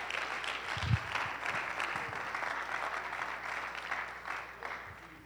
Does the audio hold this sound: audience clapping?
yes